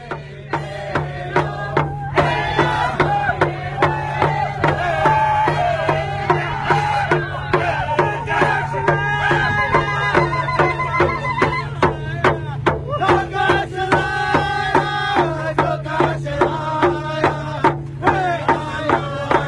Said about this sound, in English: And now, let's listen to some drumming and singing to welcome back the water defenders to the camp after their confrontation with Dapple workers and security.